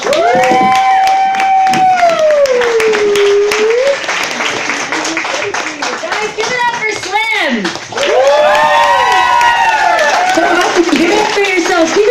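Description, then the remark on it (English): A crowd applauds loudly and steadily for about twelve seconds as a woman comedian is introduced, dense clapping mixed with rising and falling whoops and cheers, swelling again near the end. “So please, give a round of applause for one of the funniest women that have come up in a long, long time,”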